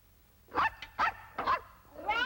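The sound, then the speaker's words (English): A puppy named Rags barks in a quick run of four or five high, yappy barks, fairly loud, with the last one rising into a whiny yip. No voices. “He's not a dog, Mother. He's only a puppy.”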